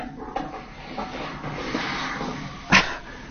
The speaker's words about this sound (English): Cape Town, there's a lot of noise. I think you're all mic'd up. All the mics are working in Cape Town. So if you're near a mic, just be careful in shuffling papers because we're hearing a fair bit from Cape Town.